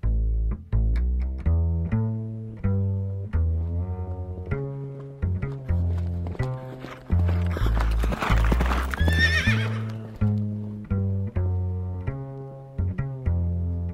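Steady, rhythmic clip-clopping of horse hooves runs throughout, with a loud, shrill neigh rising in the middle of the sequence. No one speaks.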